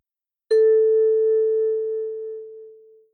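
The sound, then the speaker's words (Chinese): A single bell chime marking the end of a music listening example, struck once, giving a clear mid-pitched tone with bright overtones that rings out alone and slowly fades over about two and a half seconds. “在每个听音示例结束时，你会听到这样的铃声。”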